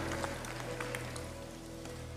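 Steady applause from a church audience after a prayer, a dense crackle of many hands clapping at a fairly low level, running evenly throughout with a low constant hum underneath and no voices.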